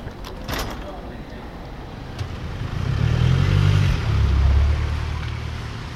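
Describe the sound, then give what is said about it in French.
A couple of sharp clunks of a car door shutting come first, then a low engine rumble builds and swells steadily as the car pulls away, driving Charles Pellegrini to his office. “Donc Charles Pellegrini, on est dans la voiture qui nous conduit à votre bureau.”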